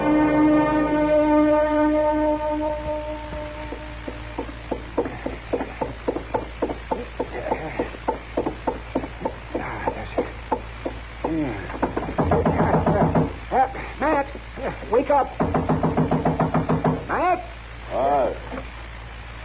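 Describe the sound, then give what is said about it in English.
A long run of rapid, insistent knocking on a door, repeated sharp raps that continue steadily for many seconds, preceded by a brief sustained tone. “Don't knock that door down.”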